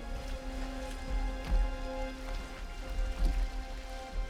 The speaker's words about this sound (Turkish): Derin suların kaynakları ve göklerin bentleri kapandı. Böylece göklerden yağan şiddetli yağmur dindi.